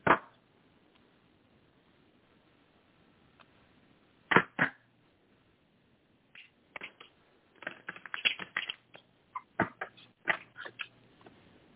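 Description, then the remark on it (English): Papery snaps and quick riffling bursts of a deck of cards being shuffled for a card reading: a few isolated slaps early on, then a denser, uneven flurry of clicks, with no one talking. “Okay, one second while I shuffle the card.”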